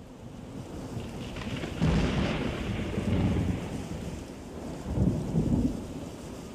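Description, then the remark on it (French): Rumbling thunder rolls through a steady downpour of rain, with two heavier booming swells, one near the start and another toward the end, and no voices. “Il y a de l'orage! Oh, de l'orage! J'ai peur de l'orage!”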